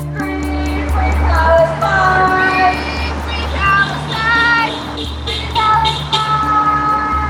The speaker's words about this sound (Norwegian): Dere hører kanskje at det tuter biler og som kjører forbi, som støtter demonstrantene.